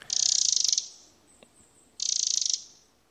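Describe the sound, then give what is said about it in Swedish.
A wren gives two dry, rapid rattling calls, each a fast, even burst of ticking notes lasting under a second, separated by a short pause. The calls are clear. “Ja, om rödhaken spelar kastanjett så spelar gärdsmygen kanske på harskramla, en sån här grej som publiken väsnades med under idrottsevenemang förr i tiden.”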